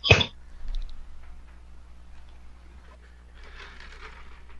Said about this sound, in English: If you hear silences, it's sorry, I don't want to cough. That's my cough break.